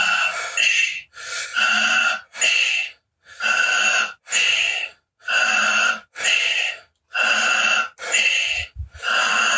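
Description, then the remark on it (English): Fast, steady breathing through the mouth during a guided breathing exercise, in its second minute: about ten loud, airy huffs in a brisk regular rhythm, inhales and exhales following each other with short pauses between, and no talking. “You can also breathe through the nose, but better through the mouth, goes easier.”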